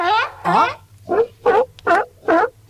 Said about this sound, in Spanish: Este es un lobo marino. Así es. Así suena, chicos y chicas,